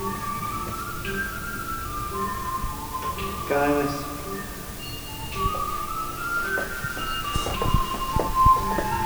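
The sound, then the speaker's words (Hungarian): A fire station alarm melody plays at the 8th district fire station of the Budapest Metropolitan Disaster Management Directorate, alerting crews to a fire, as a series of clear, sustained electronic tones stepping between pitches, with a voice briefly announcing the alarm over a loudspeaker and some clicks and thumps underneath. “Ugye hallottuk először a dallamot, utána pedig bemondták azt, hogy melyik szert riasztja, ez hangos bemondón érkezik”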